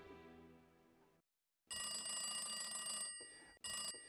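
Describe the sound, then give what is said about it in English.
An old party-line telephone bell rings loudly in a coded pattern: a long jangling ring followed by three brief short bursts, after a fading metallic tone and a pause. No one speaks. “Our ring was a long and three shorts, and that's what differentiated people.”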